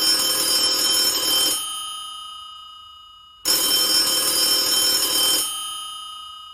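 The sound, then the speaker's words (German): A telephone bell from the 1970s rings loudly in two long metallic bursts, each about one and a half seconds, separated by a pause with ringing decay. “Schön, dich zu hören, vor allem hier an meinem Telefon aus den 70er Jahren.”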